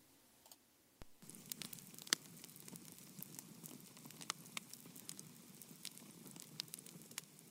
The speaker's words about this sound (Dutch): Ik zit hier bij een kampvuur midden in de woestijn